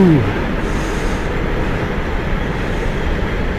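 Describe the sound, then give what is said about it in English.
A freight train rumbles past, a steady, dense low roar of rolling wagons that fills the whole clip, with a brief descending tone at the very start. “Sorry, there's a freight train going past.”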